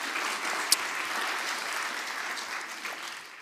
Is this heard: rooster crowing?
no